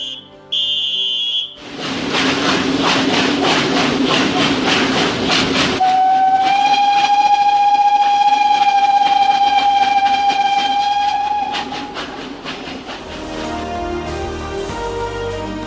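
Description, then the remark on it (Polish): A train on the Kalisz–Toruń–Kraków route pulls away from Kalisz railway station in Poland with a rumbling chug, then a long, steady whistle blast sounds for several seconds before fading into rolling wheel clatter. A short beeping tone opens the scene. “zawiadowca stacji kolejowej Kalisz, …. Proszę wsiadać, drzwi zamykać, odjeżdżamy.”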